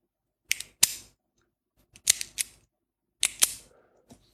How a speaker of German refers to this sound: Ein Kugelschreiber ist das.